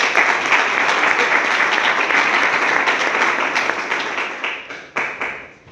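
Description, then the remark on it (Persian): Sustained crowd applause as the audience applauds themselves, a dense wash of many hands clapping steadily and loudly, thinning out toward the end as a few last claps trail off. “تشویق کنید خودتون رو.”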